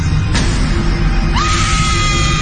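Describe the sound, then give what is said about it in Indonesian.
A woman screams hysterically while possessed, in a villa bedroom, her cry rising and then holding in a long, shrill wail over a heavy, rumbling background din. “Dan kakak saat itu terlihat sedang berteriak sangat histeris.”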